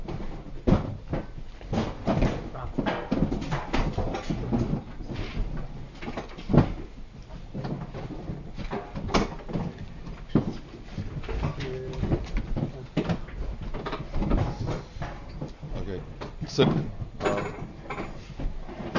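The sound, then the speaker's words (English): A door is opened and shut again and again, a steady run of sharp clunks and knocks with faint muffled voices in the background. “That, maybe you can close the door or whatever it is, it's just distracting.”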